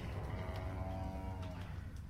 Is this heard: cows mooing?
yes